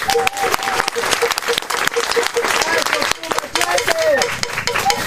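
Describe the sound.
A crowd applauds a visiting guest in dense, continuous clapping, loud throughout, with a few faint voices and whoops mixed into the clapping.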